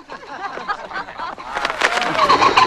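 A car engine starts and grows louder as a man reverses the car away, with a small crowd of onlookers chuckling and laughing at him over it.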